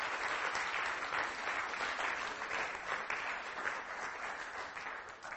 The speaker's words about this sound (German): Und ich bitte all die, die, sagen wir mal, in der Regel hier sind oder immer wieder hier sind, gebt doch mal allen, die heute erstmalig hier sind, einen Applaus.